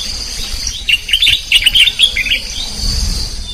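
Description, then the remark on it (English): Birds chirp in quick bright bursts from about one to two and a half seconds, with steady insect-like buzzing and soft rustling ambience underneath, in Sinjanjai, a jungle village surrounded by tall grasses and thick trees, about 175 kilometers east of Bissau, Guinea-Bissau. “With a population of less than 400 and most of them farmers, this village is surrounded by tall grasses and thick trees from where echoes of bird sounds fill the air.”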